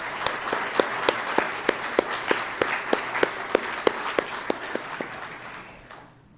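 A crowd applauds steadily for several seconds, a wash of many hands with a few sharper, louder claps standing out, then the clapping fades away at the end.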